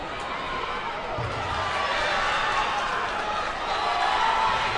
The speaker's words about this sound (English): Again, crowd reacting to the third place match between Bethel Park and Franklin Regional.